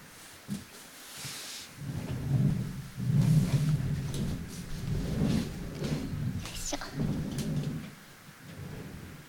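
heavy rain with thunder

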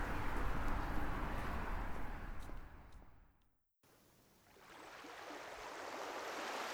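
ocean waves

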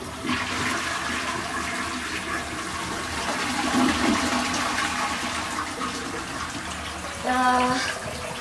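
toilet flushing

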